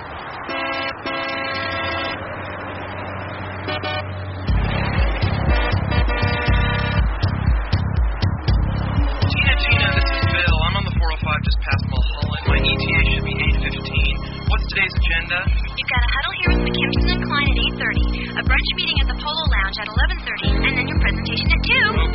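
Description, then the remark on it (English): A song plays loudly, opening with sustained horn-like synth chords before a steady, punchy beat kicks in after a few seconds and drives on with bright, blaring tones. “And here's some music.”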